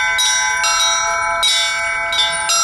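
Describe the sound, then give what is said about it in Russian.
Church bells ring for Orthodox Easter week at the belfry beside the Resurrection Church on Cathedral Square in Penza, Russia, in a bright, overlapping peal, with fresh strikes every half second or so over a sustained, shimmering hum of tones. No voices are heard. “Верующие продолжают радоваться воскресению Господа и делают это с помощью колокольного звона.”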